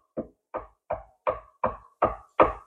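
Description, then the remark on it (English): A steady series of seven firm knocks on a wooden door, evenly spaced about a third of a second apart, clear with no voices. “He continues knocking on the door.”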